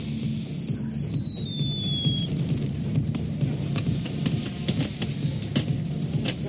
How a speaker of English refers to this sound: at a certain point, I'm not really sure why or what precipitated it, Broken Matt Hardy grabs, for lack of a better term, a firework launcher and starts shooting across the ring at his brother Jeff, who is on the other side, having been thrown out.